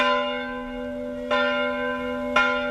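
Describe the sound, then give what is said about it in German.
Church bells ring steadily in Istanbul, Turkey, with a rich, sustained hum, two fresh strikes landing about a second apart over the lingering resonance. No voices are present. “Glockengeläut mitten in Istanbul.”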